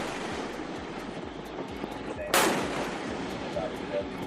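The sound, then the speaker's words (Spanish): A single sharp cannon blast cracks out midway through a dense, steady rumble of engine and wind noise, a US Navy destroyer's gun firing once at an Iranian ship near the Strait of Hormuz. “Son los cañonazos de la Armada estadounidense.”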